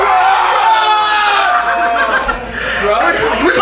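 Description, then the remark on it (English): A large crowd yells the word "drugs" loudly in unison in a sustained, ragged shout that fades into scattered laughter and chatter near the end. “And when I point at you, I need you to scream, drugs, can you do that?”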